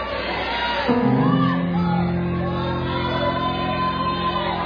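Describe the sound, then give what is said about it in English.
An audience erupts in loud shouts and whoops of praise, sustained cries overlapping, with a dense murmur of excited voices filling the space throughout. “There's nothing wrong about shouting.”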